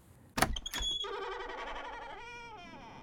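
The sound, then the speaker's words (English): The little white front door of a brick house is unlocked with keys and opened: two sharp metallic clunks, then a long, drawn-out creak of the hinges that wavers in pitch as the door swings slowly into a dark vestibule. It sounds alone. “The door opened into a vestibule area.”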